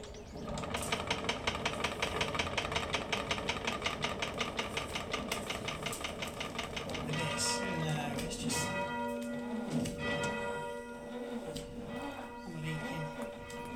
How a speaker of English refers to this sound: Just a short walk away in Old Glossop, I visited the bell ringers in the parish church.